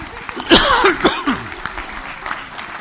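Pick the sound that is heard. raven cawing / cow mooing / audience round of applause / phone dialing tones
audience round of applause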